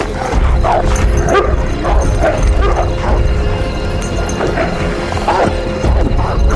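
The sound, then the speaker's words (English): Several dogs bark and yelp in quick, irregular bursts, with a few higher whimpering cries mixed in, over a steady low rumble of outdoor commotion, outside as a large man takes the dogs and leads a group of men out of town. No one speaks. “Outside, a large man with long blonde hair takes the dogs and leads the men out of town.”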